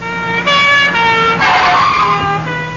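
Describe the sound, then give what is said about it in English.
A loud, brassy alarm trumpet on an anti-theft handbag blares for about three seconds as a thief runs off with the bag, holding steady harmonic tones that shift pitch a couple of times, sustained with no voices. “And the alarm trumpet will sound.”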